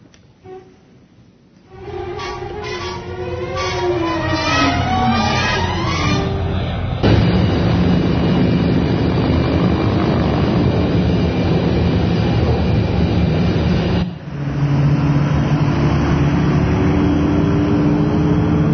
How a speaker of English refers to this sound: but let's first get the plane up in the air. Please roll our SwarmWorks Airbus.